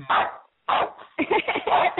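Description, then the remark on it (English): A dog barks in several short bursts over a phone call from a roommate calling in with the dog, heard tinny and band-limited through the phone line, with brief pauses between the first few barks before a quicker run. “Oh, sweet Lord, my roommate's calling in with my dog.”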